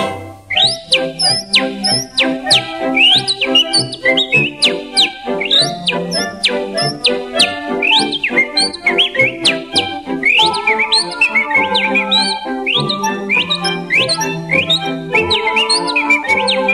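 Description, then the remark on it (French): Someone whistles quick, birdlike chirps and rising trills that imitate birdsong, repeated steadily over a full, continuous musical accompaniment, loud throughout. “Et je sifflais près des ormeaux, étant le copain des oiseaux.”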